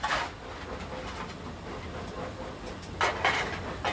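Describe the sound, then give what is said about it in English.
A steam locomotive labors up a slight uphill gradient toward a level crossing with the regulator opened a little, making a steady mechanical rumble broken by a few louder, hissing exhaust bursts near the start and end, with no voices. “There's a slight uphill gradient towards it, so I've had to open the regulator a little bit just to keep the train moving up to the level crossing.”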